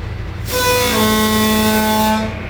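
The whistle of the ferry at Mayport blasts loudly for about two seconds, a single sustained, harmonically rich tone over a low rumbling engine background.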